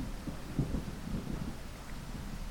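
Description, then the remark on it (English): A low, steady storm rumble of wind and rain, with a dull thunder-like swell near the start. It stays fairly quiet and continuous throughout, and no voices are heard. “At first the wind and the rain pushed him backwards, but he kept flapping his wings, and before long he was flying through the stormy sky.”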